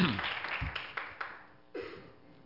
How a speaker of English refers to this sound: One more hand clap for Jesus.